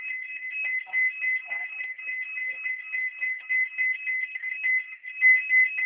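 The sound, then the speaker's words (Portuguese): A telephone rings with a shrill, warbling electronic tone that holds steadily through the whole stretch, fairly loud, with no one speaking over it. “É o telefone.”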